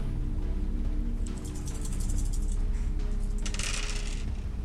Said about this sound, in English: Holly, if you could roll me 4d6